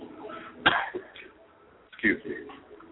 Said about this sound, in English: I'm still trying to retrieve my voice back from Congress Square, so I will be coughing.